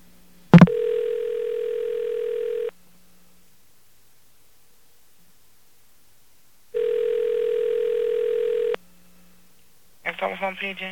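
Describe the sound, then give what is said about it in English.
A click, then two long steady telephone tones about two seconds each, separated by a four-second silence, as a call to a New York telephone operator connects; a voice briefly answers at the end. “I'm going to get a New York telephone operator on the phone.”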